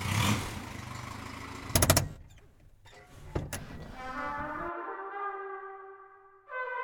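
A car engine rumbles with a couple of sharp knocks, then revs up into a rising, droning whine that climbs steadily in pitch before a final surge.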